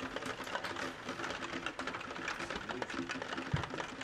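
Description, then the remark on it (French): Rain drums on a corrugated metal roof in a dense, continuous patter of rapid, sharp taps with a steady metallic rattle and a faint low hum underneath. “Il y a de la pluie, c'est sûr. Il y a de la pluie. Il y a de la pluie. De la pluie sur la tôle ondulée.”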